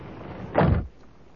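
A door slams shut once with a loud, heavy thud that stands out sharply against a steady low hiss of background noise, then quickly dies away.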